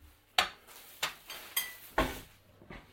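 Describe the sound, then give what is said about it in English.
A frying pan is handled in a kitchen while scrambled eggs are being made, giving five sharp metallic clanks and knocks spaced about half a second apart, fairly quiet, with no one talking. “Okay, so, frying pan.”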